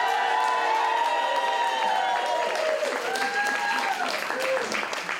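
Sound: audience applause and cheering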